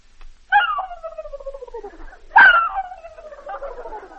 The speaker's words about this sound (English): a turkey.